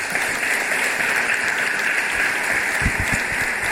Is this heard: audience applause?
yes